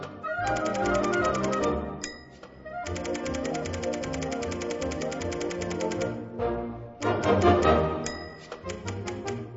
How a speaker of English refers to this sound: What's that sound? Do your students know exactly what a typewriter is?